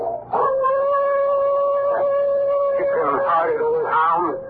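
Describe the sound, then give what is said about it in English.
A dog howls in its kennel, one long sustained mid-pitched wail that holds steady, then wavers and breaks into shaky, rising and falling cries toward the end. “And suppose he's yelling for the fool I sent to eternity tonight.”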